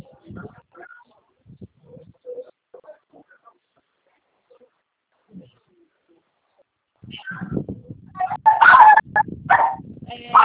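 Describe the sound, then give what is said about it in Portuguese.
A dog barks loudly in a rapid string of repeated barks during the last few seconds, after a stretch of faint, scattered background noises. “Fala de novo aí, o cachorro tá latindo aqui.”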